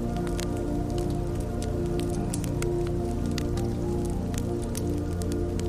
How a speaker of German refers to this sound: Die Flammen knacken und spenden dir Wärme.